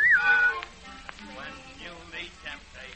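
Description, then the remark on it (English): A person gives a short whistle at the start, a bright tone sliding downward for about half a second, and then a voice carries on over soft background music. “When you get in trouble and you don't know what to do, give a little whistle.”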